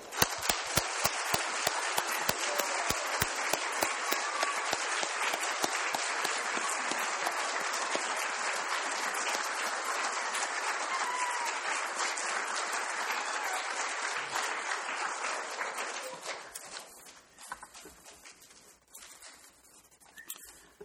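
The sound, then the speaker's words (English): A standing audience applauds Jesus Christ in a dense, sustained wave of many hands clapping for about sixteen seconds, then the applause thins out and fades to scattered claps. “And while looking towards heaven this morning, let's applaud our great and wonderful shepherd, Jesus Christ, for what he has done for us.”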